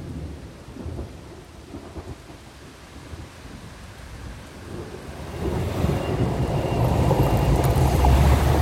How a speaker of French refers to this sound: Je crois que j'ai vraiment pas de chance avec la météo en ce voyage. Il y a encore un vent de malade et je crois que je vais me choper l'orage.